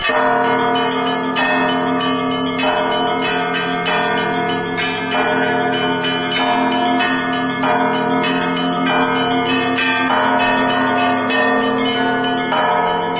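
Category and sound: signal or alarm, church bells ringing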